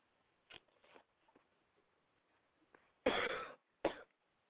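Raspy coughing: a couple of short coughs, a pause, then a longer harsh hacking cough followed by one sharp final cough. No talking.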